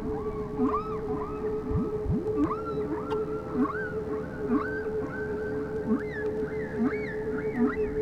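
Whale calls rise and fall in a steady series of arching, looping tones, roughly one per second, over a constant low underwater hum. No one speaks.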